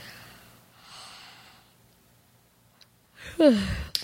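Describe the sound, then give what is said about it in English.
A person gives a deliberate, realistic yawn: a long breathy inhale, a brief pause, then a loud voiced exhale that slides downward in pitch. “I would like you to do a realistic yawn.”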